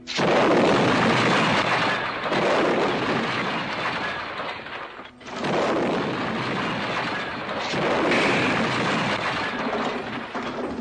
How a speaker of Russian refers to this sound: «Протега!» — крикнул кто-то, но в следующую секунду все прочие звуки потонули в грохоте взрывов.